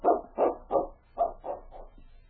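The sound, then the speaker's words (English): A dog barks six times in quick succession, two rapid pairs then a pause and three more, the last ones softer, with no voices. “Look at that dog, will you? He knows something's up.”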